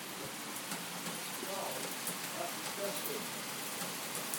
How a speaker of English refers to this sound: That is rain. I'm just going to let you listen to this for a minute. It's been doing this for the past, half an hour, 45 minutes. And it's been keeping that sort of heaviness up. That just accelerated about 10 minutes ago, didn't it, to that?